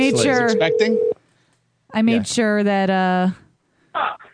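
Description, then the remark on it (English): Telephone sounds from a call being placed to a cell phone: steady electronic tones in two bursts separated by a pause, then a short blip, all fairly loud. “Okay, I'm going to have to call another cell phone, so apologies okay.”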